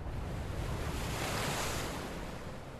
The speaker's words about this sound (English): There's no breeze, only the sound of the surf, but nobody listens to the surf.